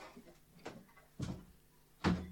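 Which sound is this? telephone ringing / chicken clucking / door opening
door opening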